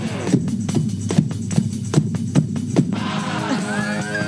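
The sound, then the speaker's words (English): An amateur drums along with a rock song: steady, slightly uneven drum hits thump along with the music for a few seconds, then the drumming stops and the music carries on by itself with a bright melodic line. “I just made my drumming debut.”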